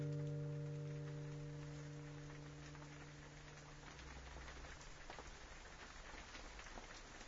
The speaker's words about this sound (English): And as the rain falls steadily on Socky Hall Street,